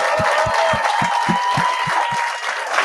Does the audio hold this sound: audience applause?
yes